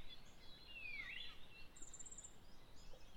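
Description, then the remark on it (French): Faint birdsong over a soft, steady outdoor hiss: a sweeping, warbling call in the first second, then a thin, high chirping trill from another bird a moment later. “Écoutez les différentes mélodies des oiseaux et comme elles semblent se répondre harmonieusement les unes aux autres.”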